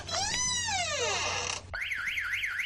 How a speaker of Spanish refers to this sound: ¡Cuidado que suenan las alarmas!